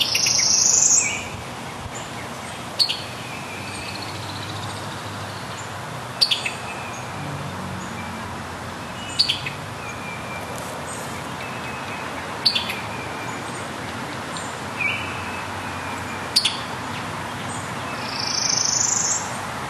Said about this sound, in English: Earlier this spring, we were in Prairie Grove on a different Saturday morning before much of that day's business was underway. But we did discover the birds at the Prairie Grove Battlefield State Park were already well into their day.